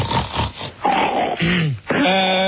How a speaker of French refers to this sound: Voilà, mais c'est qui là qui renifle comme un bouc là?